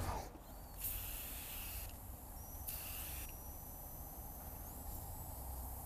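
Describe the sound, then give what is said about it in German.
Two short hissing bursts of leak detection spray from an aerosol can, sprayed to find a leak on a Mitsubishi Space Star, the first about a second long and the second briefer, set against a faint steady background with no voices. “Ich habe jetzt mal so ein Leckspray mitgebracht.”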